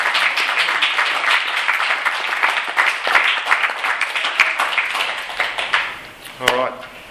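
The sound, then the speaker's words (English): An audience applauds in a steady, dense wash of clapping for about six seconds, then it thins out as a brief voice sounds at the very end. “So you're getting 2 rounds of applause.”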